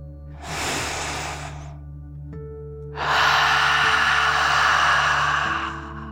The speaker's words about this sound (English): Let's relax by taking a deep dragon breath together. Breathe in through your nose, filling up your lungs, and then out through your mouth, pretending you are breathing fire, like a dragon. Are you ready? Deep breath, in and out.